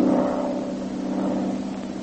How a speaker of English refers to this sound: even as he talked with the Dragon Lady, a single-engine plane was heard high overhead